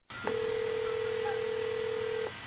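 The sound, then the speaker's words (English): A telephone line tone as a prank phone call is placed: one steady, mid-pitched beep held for about two seconds over a faint, muffled line hiss, with no voices. “Another horrible phone prank gone wrong.”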